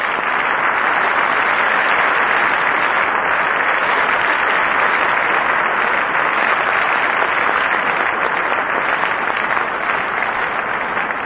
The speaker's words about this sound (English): Why don't we offer a round of applause to both gentlemen.